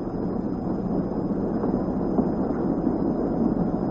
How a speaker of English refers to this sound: Nice, soft sound of those engines purring behind me. This houseboat sleeps eight.